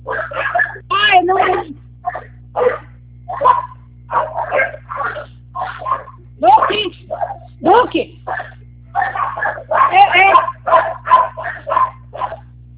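A dog barks loudly and repeatedly at a gate, in quick bursts of sharp barks and yips with a few whiny notes, continuing for several seconds over a low steady hum.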